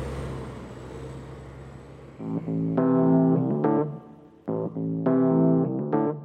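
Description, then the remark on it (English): A steady low rumble gives way to a loud bus engine roaring in two surging bursts as the bus arrives at a stop in France, its droning tone rising and dropping as it revs. No one speaks. “As he tries to explain that it's a stop, the bus booms into existence. The loud engine makes us both jump.”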